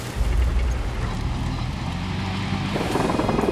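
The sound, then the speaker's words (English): Heavy diesel engines rumble and grind steadily, a dense, continuous roar of firefighters' armoured bulldozers and trucks driving, with a low throbbing drone and clanking texture throughout. “Armoured bulldozers and trucks.”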